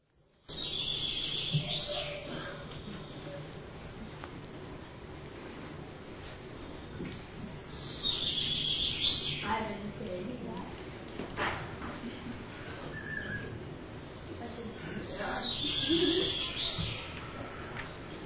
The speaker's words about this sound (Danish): Og den her fugl, den kom fra en må jeg høre? Er nogen, der skal sige det? Fra en bogfinke. Ja, sådan ser en bogfinke ud. Og dem er der masser af her i Danmark.